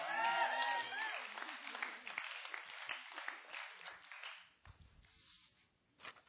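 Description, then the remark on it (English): A crowd applauds and cheers at a talk titled "Does the Bible Degrade Women?", a dense wash of clapping with a few shouted voices at first, steady for several seconds before thinning out into scattered noise and murmurs. “You better be cheering for me.”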